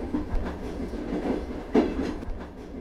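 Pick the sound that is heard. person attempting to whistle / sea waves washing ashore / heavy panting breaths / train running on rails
train running on rails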